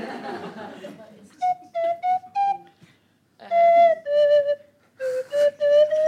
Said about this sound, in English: Katie Pritchard on the slide whistle, everybody.